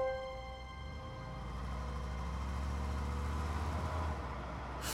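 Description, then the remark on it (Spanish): A car engine runs steadily, a low, even rumble with a faint tonal hum above it, continuing for several seconds without any voices. “Pero tu esposo te agarra de la mano y te lleva hacia el carro que los conducirá a tu nueva vida.”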